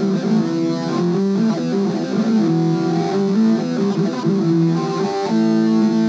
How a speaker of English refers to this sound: Metal distortion. And death metal distortion.